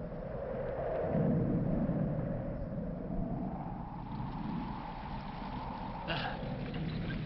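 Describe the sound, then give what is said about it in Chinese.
Steady thunderstorm noise of heavy rain and strong wind under dark clouds and lightning rushes over a deep low rumble, with a brief sharper burst near the end. “马车备好时，天空黑云密布，闪电大风带来了雨。”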